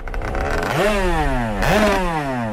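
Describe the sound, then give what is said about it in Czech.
A motorized surfboard (motosurf) engine, ridden by Czech motosurfers training in Egypt near Hurghada, revs loudly twice, its whine climbing sharply in pitch and then sliding back down each time over a steady rough drone, with no voices. “Tak vy jste přijeli dělat rámus na místo do Abu Dhabi sem do Egypta.”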